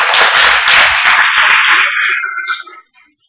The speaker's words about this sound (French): On peut les applaudir déjà d'avance.